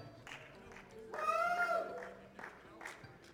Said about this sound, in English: Oh man, I appreciate all that hooting and hollering